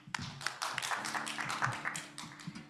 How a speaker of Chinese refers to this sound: 我们将时间交给他，我们一起鼓掌。